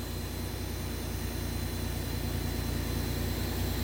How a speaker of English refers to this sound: I don't have the air bowl off all the time. It seems like it's idling high.